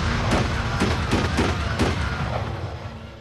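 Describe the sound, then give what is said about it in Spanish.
Several sharp gunshots crack out in an irregular burst over a constant loud, rumbling background noise, with no voices heard, as a man fires a gun at people in a venue where Somali immigrants meet to chat and play cards; the bullets are .38 caliber. “No dijo nada, tan solo los apuntó con un arma y disparó.”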